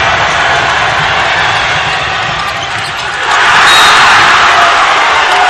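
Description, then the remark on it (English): A basketball crowd's steady roar swells into a louder burst of cheering as DJ Stewart's drive to the basket is rejected, with 3.5 minutes to play in the first quarter and George Ranch leading 6-4. “You can tell the result from the crowd noise.”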